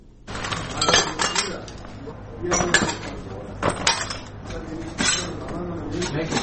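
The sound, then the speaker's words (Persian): Broken glass pieces clink and scrape together in irregular bursts as they are gathered up, over a low, steady background hum; glass and debris from a rocket strike on a house in the second district of Khair Khana, Kabul, being cleared for repair. “پارچه های شیشه را جمع می کنند و می خواهند و ویرانه های راکت را که صبح اول قوس به این خانه در حصه دوم خیرخانه به بار آورده ترمیم کنند.”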